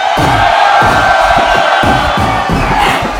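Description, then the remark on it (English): A concert crowd at Fitzgerald's in Houston, Texas, during a live album recording, cheers and shouts loudly and continuously, a dense roar of many voices with steady low thumps pulsing underneath at a regular beat. “Right about now, all the bus smokers in Houston, make some noise.”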